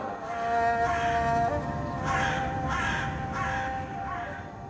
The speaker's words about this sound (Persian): بر سرم آشیانه بست کلاغ،